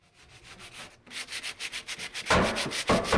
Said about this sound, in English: Volunteers are sanding kitchen cabinets and framing doorways in this two-bedroom stucco home. It's on a corner lot in a depressed neighborhood of Modesto, about 100 miles east of San Francisco.